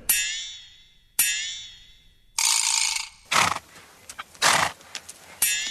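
A broken small purple metal toy horse, whose battery was not replaced in time, sputters: two sharp, ringing neigh-like tones fade out, then rough, stuttering whirring and grinding bursts start and stop, with no voices.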